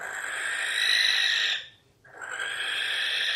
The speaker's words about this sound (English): The barn owl, the distinctive sound of this silent, winged, ghost-like bird